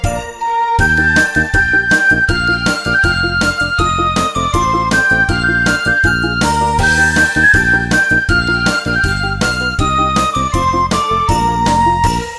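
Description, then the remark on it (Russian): Bright jingling bells ring in a steady, bouncy rhythm over a loud, full musical backing, a New Year song, that plays continuously for the whole stretch, with no voices. “Колокольчики играют, с Новым годом поздравляют, и звучит со всех сторон”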